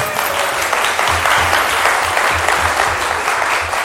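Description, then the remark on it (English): A room full of people claps steadily, a dense, even wash of applause that holds at a constant, fairly loud level from start to finish without words. “Round of applause for the army.”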